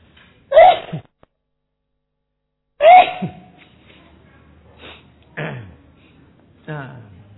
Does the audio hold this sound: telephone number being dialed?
no